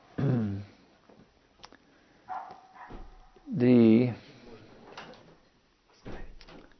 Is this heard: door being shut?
yes